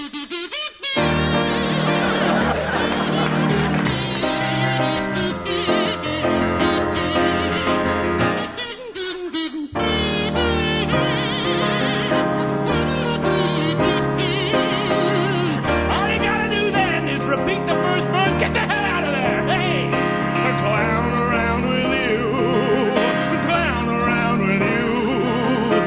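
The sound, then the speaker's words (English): A loud, full instrumental passage plays steadily with no singing or talking, dense with sustained melodic lines and a driving beat, briefly dropping out for a moment before resuming. “Never write a third verse. Instrumental!”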